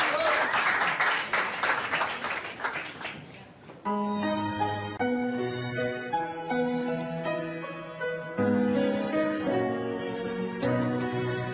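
An audience bursts into dense, steady applause for about four seconds, then the clapping stops abruptly as music with sustained melodic notes begins.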